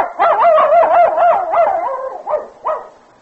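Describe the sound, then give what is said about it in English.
A white dog, Queenie, barks excitedly in a quick, high-pitched run of yelping barks that blur together, then gives two short, separate barks before falling quiet. No one speaks. “Okay, Queenie, you can run along now. Here, go fetch.”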